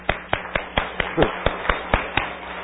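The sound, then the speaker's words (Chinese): An audience claps for the brothers and sisters who just led worship, clapping together in a steady, even rhythm, about ten crisp, loud claps evenly spaced over a few seconds, with no voices over them. “赞美非常好，我们为刚刚的弟兄姐妹在这边呢为他们鼓掌。”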